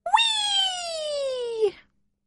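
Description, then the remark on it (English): A voice imitates a tiny baby bear's howl: one thin, high-pitched wail that slides slowly downward for about a second and a half, steady and fairly loud, then stops. “And a terrible teeny-weeny baby bear howl.”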